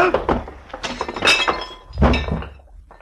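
A man knocked down in a fistfight crashes onto a coffee table in a burst of thuds and breaking wood, with glass clinking and shattering through two loud impacts before the debris settles.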